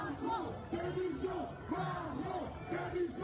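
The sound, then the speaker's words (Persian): A street crowd chants the protest slogan "Macron resign" in unison, the rhythmic shouted phrase repeating about three times with a steady cadence over the dense roar of many voices. “در خیابان‌ها بار دیگر شعار مکرون استعفا به گوش می‌رسد.”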